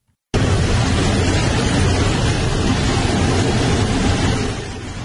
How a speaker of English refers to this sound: This is an open airline jet door while a plane was landing in South Korea. Guy on the way down opens the door mid-flight.